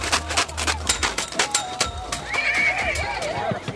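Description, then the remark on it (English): An Arabian horse lets out a long, wavering whinny while its hooves clip-clop steadily at a horse competition in a rural area outside Nazareth, the sharp, evenly spaced clops running through the whole stretch. “People in this part of the world have been breeding Arabian horses for thousands of years.”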